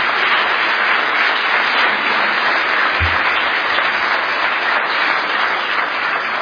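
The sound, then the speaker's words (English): Steady, loud applause from a large audience for two speakers, Dr. James White and Bashir Bania, fills the whole stretch, a dense wash of many hands clapping with no pauses and no voices rising above it. “I also just want to ask you to please give again a round of applause to our two speakers, Dr.”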